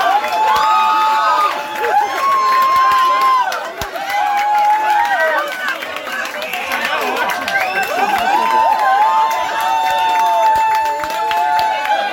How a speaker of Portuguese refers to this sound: E gritou alto naquele gol, estilo capoeira, também do Richarlison.